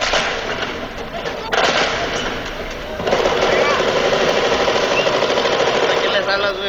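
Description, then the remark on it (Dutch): Recorded pistol gunshots, played from minidiscs inside pistols at a museum, crackle in a dense, rapid volley, loud and continuous, stepping up in intensity twice over several seconds, with muffled voices of the people who filmed them mixed underneath, wondering who is shooting. “Ja, wat je dan hoort zijn schoten, maar ook de mensen die dat gefilmd hebben, die daarover praten en zich afvragen wie er schiet of wat voor wapen het is.”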